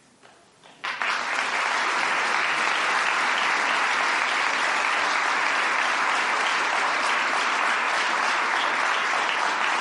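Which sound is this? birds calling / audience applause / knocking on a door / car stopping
audience applause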